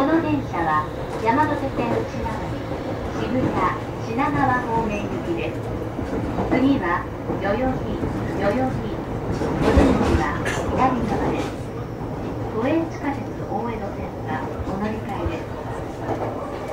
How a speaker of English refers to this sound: This is the Yamanote Line train bound for Shibuya and Shinagawa. The next station is Yoyogi. The doors on the left side will open. Please change here for the Oedo subway line.